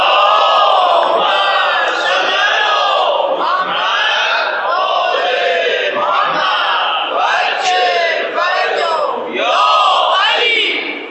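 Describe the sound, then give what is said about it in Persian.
A large crowd chants salawat in unison, a loud, sustained wave of many voices rising and falling in repeated rhythmic phrases for about eleven seconds. “صلوات نداره محمد؟”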